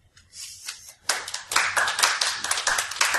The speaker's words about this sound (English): All right, so audience participation, and we're going to signify by a round of applause.